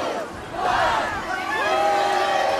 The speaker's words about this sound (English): Even though it was just a test, the crowd here was excited when the colorful confetti rained down on them.